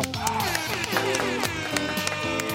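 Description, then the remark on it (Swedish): A short burst of clapping blends with bright, brassy horn notes that step through a few pitches over a steady rhythmic beat, lasting a couple of seconds with no talking; the customary applause and little horn toot played to greet a co-host. “Och som vanligt kör vi en applåd och en liten tuta på det.”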